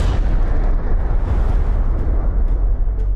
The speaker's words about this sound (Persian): جی رابرت اوپنهایمر ملقب به پدر بمب اتم در لحظه انفجار اولین بمب در نیو مکزیکوی آمریکا شعری از بهاگواد گیتا حماسه معروف هندیان را نقل می کند.